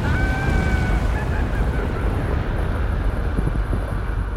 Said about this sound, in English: An avalanche falls down the mountain. You idiots! The avalanche was supposed to take out Chicken Hair, not us!